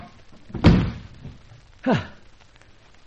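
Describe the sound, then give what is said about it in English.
A door swings open with a heavy thud, followed about a second later by a second, softer bump with a brief creaking slide. “Then behind the door as it opens.”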